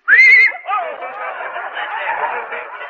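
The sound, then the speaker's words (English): A horse in a drugstore gives a short, loud, high-pitched whinny lasting about half a second, followed by a longer stretch of rough, fluttering, chattering vocal noise. “A horse? A horse at a drugstore?”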